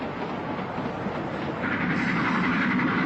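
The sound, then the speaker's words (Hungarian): A moving train running nonstop to Rugby rumbles steadily with a dense, continuous rolling noise that swells a little louder partway through; faint rhythmic clatter of wheels on rails, with no voices. “Addig alaposan át kell kutatnunk a vonatot.”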